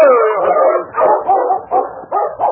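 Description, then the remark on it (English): A dog named Happy, being followed off a trail into the hills, lets out a quick run of excited yelps and whimpering whines, about half a dozen loud bursts in a row with short gaps, and no one speaking. “That dog is plumb foolish, Sergeant.”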